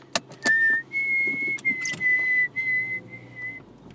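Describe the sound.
A person whistles an imitation of a bird call heard outside their house, a few sustained high tones with short breaks between them, while faint clicks and rustling sit in the background.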